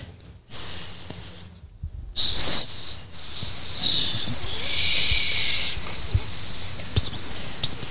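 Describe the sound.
Several people imitate a snake's hiss, starting in short bursts and then joining in a long, loud, overlapping hissing chorus that carries on without a break.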